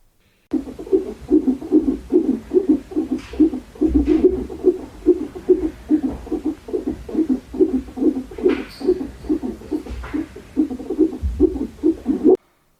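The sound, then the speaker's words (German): A fetal heartbeat on an ultrasound monitor: rapid, steady whooshing pulses at roughly two per second, fairly loud and continuous for about twelve seconds, with no voices. “Für die, die nicht wissen, was das sein könnte, das ist der Herzschlag von unserem Baby.”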